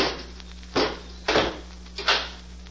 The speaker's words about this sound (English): Robot One, close the door and bolt it.